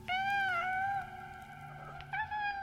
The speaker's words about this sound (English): And she heard what she thought was a kitten in the basement meowing.